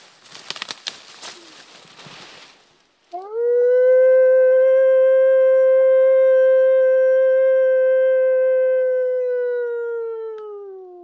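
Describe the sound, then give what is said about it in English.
A naturalist by a roadside near a beaver dam imitates a wolf with one long, loud howl that rises quickly and then holds a steady pitch for about eight seconds, calling for wolves to answer. Brief rustling noise comes just before it. “howls alone 3 times, but there's no answer.”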